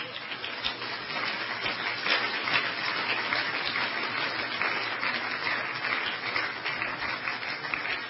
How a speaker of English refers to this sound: Let's give them a clap as they come.